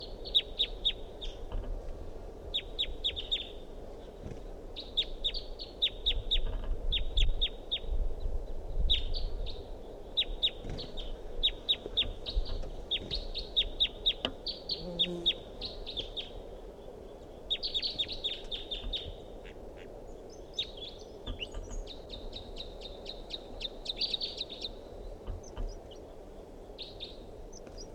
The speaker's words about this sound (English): Wild bird in song.